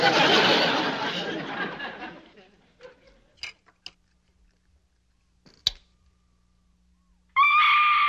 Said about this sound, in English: Give me that scream record from your charm bracelet. Must be the flip side.